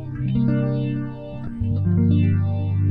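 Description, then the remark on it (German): Electric guitar run through a phaser, playing sustained chords with a swirling, sweeping tone; steady and fairly loud, changing chord around the middle, with no voices. “Phaser-Alarm.”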